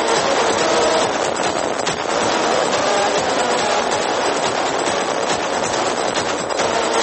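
A loud, dense electronic track with a harsh, noisy texture and rumbling, clattering layers, playing continuously at steady volume with no voices.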